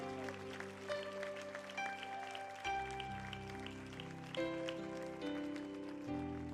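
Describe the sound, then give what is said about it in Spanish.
An audience claps loudly and steadily for the Lord, a dense crackle of many hands layered over sustained keyboard chords that shift every couple of seconds. “¿Alguien puede aplaudir al Señor más fuerte en esta noche?”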